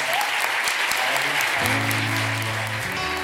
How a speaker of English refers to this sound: Let's give a round of applause for us.